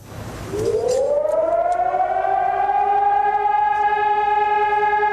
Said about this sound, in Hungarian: Egy nemzet dermet egy perc néma gyászba délben, a torkokat sírás folytogatta, megszólaltak a szirénák, a harangokat félreverték, elkezdődött Václav Havel temetése.